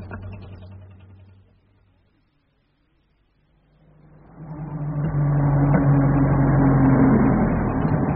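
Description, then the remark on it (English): A small car engine idles, falls quiet for a moment, then starts up again and runs steadily with a low, buzzing hum, moderately loud. “It really is a good little car, you know.”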